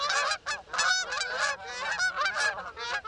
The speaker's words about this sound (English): Now, sit back, relax, and enjoy one of the most calming sounds in all of nature. Honking geese.